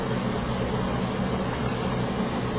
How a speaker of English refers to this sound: Would anybody mind terribly if we turned off the air conditioner for at least 2 or 3 minutes or 5 minutes?